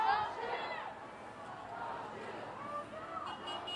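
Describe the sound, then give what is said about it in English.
A large outdoor crowd of protesters, mostly teens and younger adults, on Washington Street chatters continuously, many overlapping voices blending into a steady murmur with occasional raised calls, moderately loud and filling the space without any single clear speaker. “The crowd mostly consisting of teens. It looks like younger adults as well.”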